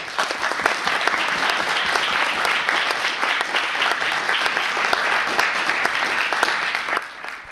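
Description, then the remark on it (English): Sustained audience applause welcoming author Howard Lyman before his talk, a dense, steady wash of many hands clapping at even loudness for about seven seconds, then thinning out briefly at the end. “You should never applaud for somebody until you hear what they have to say.”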